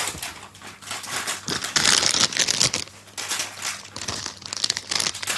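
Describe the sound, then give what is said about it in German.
A crinkly blue plastic bag of Kettle sea salt and balsamic vinegar potato chips is crumpled and pulled open, with dense crackling rustles that swell into a louder tearing burst before settling into lighter crinkles. “Ich mach auf.”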